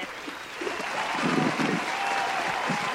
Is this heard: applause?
yes